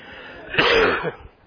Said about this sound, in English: I'm going to try not to cough on you all morning. But you'll probably still get spit on.